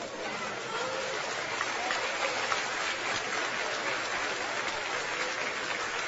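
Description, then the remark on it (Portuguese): Audience applause for the Lord fills the whole stretch, a dense, steady wash of many hands clapping at an even loudness for about six seconds, with no voices standing out above it. “Se vocês aplaudiram o Senhor, sabe o que a Bíblia diz?”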